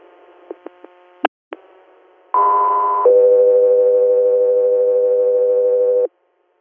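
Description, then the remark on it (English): A couple of short clicks, then two long steady electronic dispatch alert tones for Guthrie Air in sequence, a higher pitch followed by a lower sustained one, loud and clear over a radio channel with no talking. “Guthrie Air, stand by for tones.”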